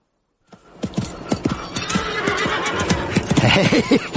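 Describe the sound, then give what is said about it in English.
A galloping horse ridden by a man pounds along in a steady, rapid clip-clop of hooves, loud, with a shrill neigh rising near the end over the hoofbeats. “God, he can ride.”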